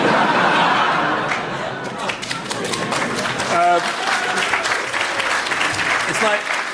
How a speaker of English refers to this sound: That's such an LSE way to applaud.